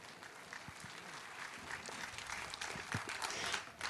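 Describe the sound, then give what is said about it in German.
An audience claps loudly to welcome a speaker, a dense, steady wash of many hands that keeps going for several seconds and swells slightly toward the end, with no talking over it. “Und wir heißen Alexis willkommen.”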